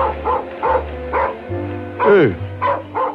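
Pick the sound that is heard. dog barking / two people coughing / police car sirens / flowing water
dog barking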